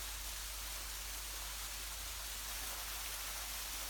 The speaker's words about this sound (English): Feel the freshness, feel the pressure, hear the sound of the water crashing on you, on the rocks around.